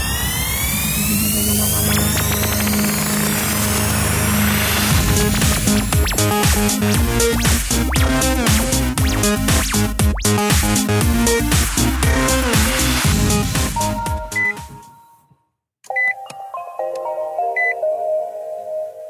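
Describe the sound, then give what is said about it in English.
Nissan Leaf all-electric car startup sound, heard from inside the car: a loud, layered electronic chime with sweeping tones over a pulsing melodic pattern, then a brief gap before softer, higher-pitched beeps. No one speaks. “And that happy sound, ladies and gentlemen, is the startup, the engine startup of a Nissan Leaf.”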